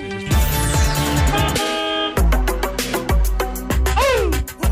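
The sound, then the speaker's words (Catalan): Loud car horns honk repeatedly over steady road traffic on the Nacional 2 highway between Sant Pol and Cabella, sustained blares overlapping with shorter toots in a busy, insistent chorus. “En fi, avui rebem el so, concretament, des de la Nacional 2, entre la bonica localitat de Sant Pol i Cabella”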